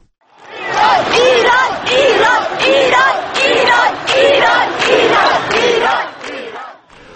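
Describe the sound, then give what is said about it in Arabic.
A large crowd of thousands chants anti-government slogans in unison in central Tehran, Iran, on Quds Day, a Friday. The chanting is loud, with a steady rhythmic beat of shouted syllables repeating throughout, like a street protest. “تظاهر آلاف في وسط طهران بمناسبة يوم القدس الجمعة مرددين هتافات ضد الحكومة رغم تحذير السلطات من استغلال المناسبة.”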